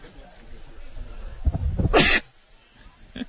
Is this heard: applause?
no